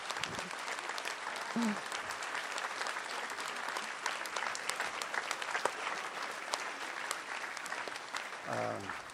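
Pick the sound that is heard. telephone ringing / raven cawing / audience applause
audience applause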